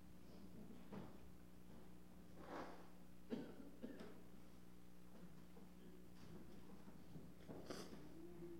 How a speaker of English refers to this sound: blow my nose.